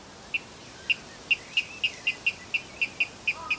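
A water rail calls alone, giving a steady series of about a dozen short, sharp piping notes at a quick, even pace against a quiet background.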